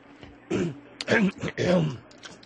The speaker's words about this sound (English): What's he doing? He's clearing his throat. I'm clearing my throat.